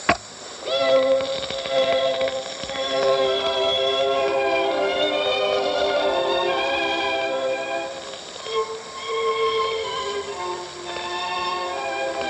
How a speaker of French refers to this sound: Après, elle se dépêche de partir, car le train va bientôt arriver, et elle doit être à son poste de garde-barrière.